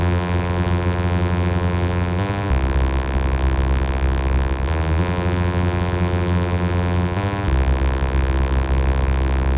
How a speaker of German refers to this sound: Diesen recht eintönigen Klang gebe ich nun in die Syntheseabteilung des Vocoders. In den Analyseteil gebe ich weißes Rauschen. Das Rauschen soll nun alle Filterbänder gleichmäßig öffnen.